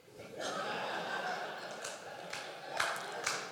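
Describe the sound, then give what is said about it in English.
An audience breaks into steady applause, a dense wash of many hands clapping that holds for a few seconds, with scattered louder claps and a bit of laughter mixed in. “No need to clap.”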